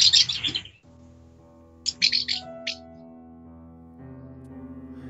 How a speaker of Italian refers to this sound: I suoni che sentite sono veramente le rondini che ci sono sopra la Francesca, quindi è natura vera, non stiamo fingendo niente.